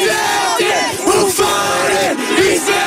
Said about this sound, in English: Now, this is a chant that I guess everyone in the town knows. Who farted East Milton? Such a good chant.